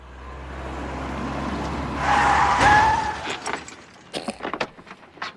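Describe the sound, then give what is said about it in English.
A car engine roars, then tires screech loudly in a skid, followed by a heavy crash of metal with sharp clattering impacts as a classic car rams into a brand new car and the collision settles. “You rammed into me. This is a brand new car.”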